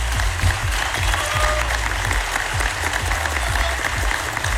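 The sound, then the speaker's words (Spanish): A crowd claps steadily and loudly for several seconds, a dense, sustained wash of many hands with a few sharper claps standing out, no voices heard, applauding all music teachers of the country during an award acceptance. “Quiero pedirles, si se puede, que podamos darle un aplauso a todos los docentes de música de nuestro país.”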